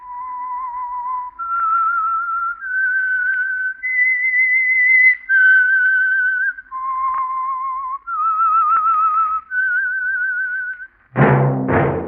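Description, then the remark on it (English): A lone whistler carries a slow, wavering melody of long sustained notes that step up and down in pitch, ending with a brief burst of a different, fuller sound. It is the whistled signature tune of the Household Finance Corporation program The Whistler. “That whistle is your invitation to listen to the Household Finance Corporation program, The Whistler.”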